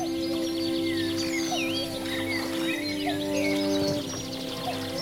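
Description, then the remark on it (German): Several birds chirp and sing in overlapping, busy phrases while a soft steady wash of gently lapping water from the Attersee lake runs quietly beneath them throughout, in the morning sun at Steinbach. “Außer den leicht schwappenden Wellen des Sees und den Vogelstimmen ist nicht viel zu hören.”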